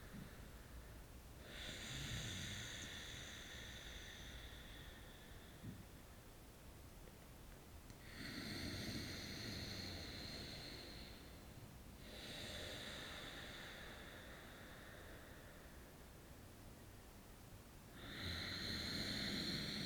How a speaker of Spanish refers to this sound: Y si es posible, deja que tu respiración se convierta en una respiración ujjayi, una respiración gutural, con un sonido profundo como si roncaras.